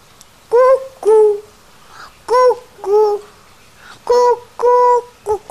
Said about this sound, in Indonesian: Dengar burung hantu. Suaranya merdu.